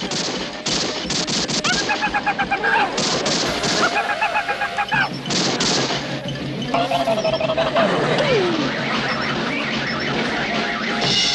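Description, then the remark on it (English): Bursts of rapid gunfire aimed at a moving car, sharp loud cracks in quick clusters, mixed with blaring horn-like tones and a wavering wail, with no talking. “That's not hail, and it's not funny. They're shooting at us.”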